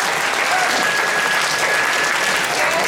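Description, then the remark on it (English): An audience at a cosplay contest applauds a contestant's costume, clapping steadily, a dense, continuous wash of applause at a fairly loud, even level for the whole stretch, with a faint voice underneath. “A big round of applause for my daughter”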